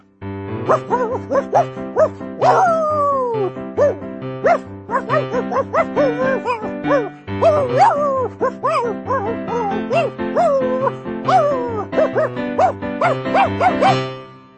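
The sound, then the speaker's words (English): Voices imitate dog barks and yips in a steady, bouncy rhythm over loud, continuous backing music, the playful woofs repeating throughout as the dog verse of a song. “And that brings us to the dog verse.”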